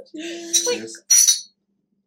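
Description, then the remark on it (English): A short voiced exclamation is followed by a quick, bright clink of small shot glasses of tequila knocked together in a toast, ringing briefly before fading into silence. “It is time to join us in holy shotamony.”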